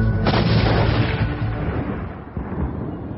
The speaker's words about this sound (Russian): Когда Гейдж опустил в отверстие железный прут и ударил по нему, образовалась искра и произошел взрыв.